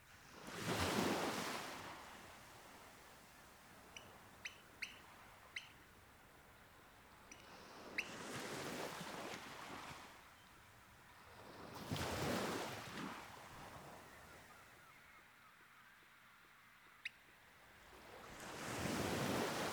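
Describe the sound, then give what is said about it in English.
Waves break and wash up onto a sandy shoreline in slow, rolling surges about every six seconds. Short, high bird peeps ring out in the quieter gaps between them, with oystercatchers probing the sand on the shoreline. “On the shoreline, the oyster catchers, with distinctive long orange beaks, probe the sand for a tasty morsel.”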